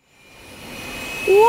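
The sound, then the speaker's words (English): A jet airplane engine roars up from silence, its broad rushing noise swelling steadily louder, with a high rising whine cutting in near the end as it powers up. “Aunt Maha goes home by plane.”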